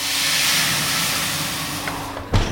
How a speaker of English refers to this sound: What I also wasn't expecting was the secret to that crisp, dry crust. It's adding water to the hot oven.